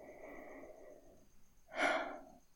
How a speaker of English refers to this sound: Yet here you are in my arms, your head resting on my chest. I'm breathing, creating a beautiful rhythm, as though even our bodies long to sing out what we have found.